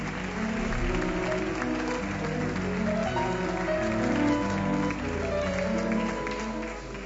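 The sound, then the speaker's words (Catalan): Sustained audience applause as award winners approach the stage to collect the award, a dense, steady wash of clapping that holds at an even loudness for several seconds, with a murmur of crowd voices and some tonal sound mixed underneath. “El públic ofereix aquest fort aplaudiment que demanen mentre s'apropen a l'escenari per recollir el guardó.”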